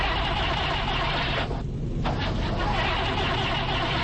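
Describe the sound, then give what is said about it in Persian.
A car engine at a gas station cranks and turns over without catching after oil was poured into its fuel tank, a continuous grinding, whirring noise that runs steadily through the whole stretch, briefly thinning in the middle before resuming. “چرا این ماشین یارو روشن نمیشه؟”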